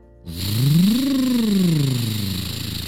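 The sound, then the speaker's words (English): A big monster truck engine revs up, its growl rising in pitch and then sinking back down in one long, loud sweep with a steady rumble underneath. Nobody speaks. “The monster truck was able to drive right over the lava.”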